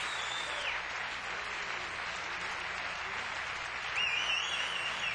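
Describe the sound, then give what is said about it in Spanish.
A crowd claps steadily for a Latin music performer in a dense, sustained wash of applause, with a faint whistle rising near the end and no voices speaking over it. “Un aplauso, por favor.”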